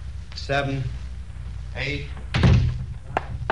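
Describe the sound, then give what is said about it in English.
A door swings shut with a single solid thump, followed moments later by a faint latch click. Voices speak briefly beforehand, and a low room hum runs throughout. “Shut the door.”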